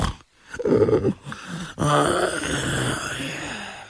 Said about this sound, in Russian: Но на этот раз лысину покрыл овчинный полушубок. И уже старостиха ничего не услышала, кроме удушливого храпа и сопения.